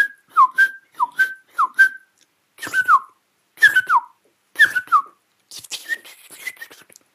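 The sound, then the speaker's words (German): A person whistles an imitation of a song thrush: sharp, clear phrases repeated in threes, first a quick identical motif, then a longer swooping one, ending in softer, fluttery notes. “diese Singdrossel ist dafür bei uns bekannt für den Spitznamen Philosoph.”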